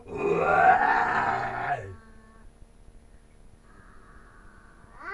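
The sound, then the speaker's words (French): A lion's roar: one loud, deep, rasping bellow lasting about two seconds, then quieter rumbling and a fainter low growl trailing off. “Donc quelques gazelles broutaient dans la savane lorsqu'un rugissement leur fit lever la tête.”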